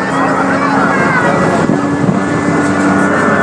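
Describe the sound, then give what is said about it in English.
The engine of a tour boat, a former American Vietnam War gunship now used as a passenger craft for tourists, drones steadily on the Singapore River with a low, even hum and a faint whine riding on top, mixed with constant rushing wind noise for the whole stretch. “They were using this gunship during the Vietnam War, and after the Vietnam War, we bought it over from them and used it as a passenger craft to bring tourists around the Singapore River.”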